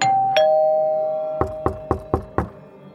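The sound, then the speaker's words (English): A two-tone doorbell chime rings out clearly at a house's front door around 8:30 a.m. on October 28, 1994, its note lingering, followed by five quick, evenly spaced knocks on the door, fairly loud. No one speaks. “Around 8:30 a.m., someone was at her front door, ringing the doorbell and knocking.”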